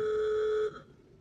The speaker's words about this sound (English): Trying out Tesla's new lock sounds. Old school horn.